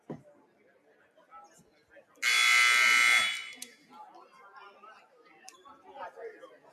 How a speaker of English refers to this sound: Second buzzer there. Warriors back on the floor.